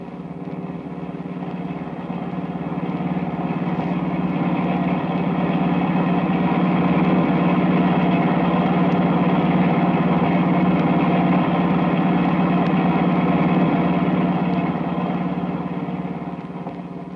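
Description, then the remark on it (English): A car engine runs steadily at a constant low drone, fairly loud, as the car starts up again and drives on for miles. Its hum swells gently and holds even for the whole stretch, with no voices over it. “Car starts up again.”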